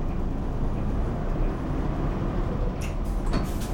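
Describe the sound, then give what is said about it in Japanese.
A steady diesel rumble of a Hankyu city bus, bound for Menkyo Shikenjo-mae via Hankyu Nagaoka-Tenjin South, pulling away from a stop, with short bursts of hissing air near the end and no talking. “お待たせいたしました。発車いたします。ご注意ください。”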